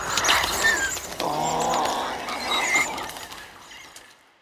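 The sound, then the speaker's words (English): A small dinosaur sound effect for a film, built from higher-pitched bird sounds and pitched-up lion sounds: shrill squeaks and chirping squeals, pitched-up animal cries overlapping with a rough growly edge, fairly loud, running continuously before trailing off at the end. No one speaks. “But in this case, you're choosing higher pitch sounds, bird sounds, and even taking pitched up lions so that you don't have any more of that big weighted growl.”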